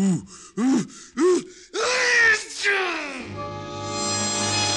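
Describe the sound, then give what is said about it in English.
Three quick, rising gasps build up to one loud, explosive sneeze, followed by a steady humming tone that carries on to the end. “That last one must have registered on the Caltech seismograph.”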